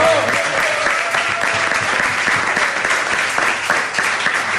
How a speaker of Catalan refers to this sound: que demano un aplaudiment ja per ell.